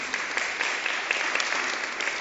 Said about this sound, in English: I hear applause up there. Amen.